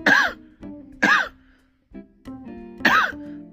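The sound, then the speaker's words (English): Three loud coughs made deliberately and exaggerated on purpose, with harsh, rasping bursts and a hoarse rising-falling vocal tone, spaced about a second apart, with brief throaty groaning sounds between them. “Stop coughing like that.”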